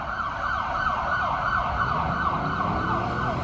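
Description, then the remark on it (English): A state trooper car's siren wails loudly and steadily as it passes, its rising and falling tone sustained throughout, over a low rumble of road traffic. No one speaks. “Here comes a Arlington police officer.”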